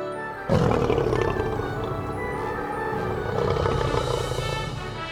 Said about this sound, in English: Lion. I am a big animal.